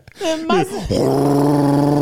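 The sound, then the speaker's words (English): A voice imitates a powerful tower fan: a few rising and falling vocal sweeps, then a loud, steady, breathy whirring drone held for over a second. “That's what that fan sound like. It was so powerful.”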